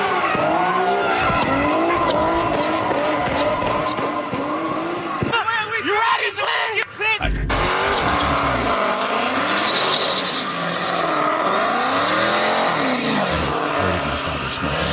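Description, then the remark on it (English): A car engine roars loudly throughout while tires skid and squeal, pitch sweeping up and down, with a brief sharp burst midway; faint voices may sit underneath the racing noise. “If you listen carefully between all of the roaring of the engine, you can hear just right underneath.”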